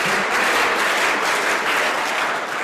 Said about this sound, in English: there's lots of cheering and screaming going on inside. Anyone would think you're at a football match, but we're not. We're at a science and engineering final.